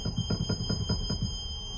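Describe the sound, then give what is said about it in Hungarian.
A pipe organ's mixture stop on the first manual holds one of the organ's highest notes, steady and shrill like a whistle, with a soft, rapid low fluttering pulsing underneath for the first second or so. “Ez az egyik legmagasabb hangja az orgonának, az első manuál.”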